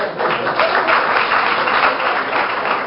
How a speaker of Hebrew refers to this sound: קצת כפיים, תנו לי, טוב.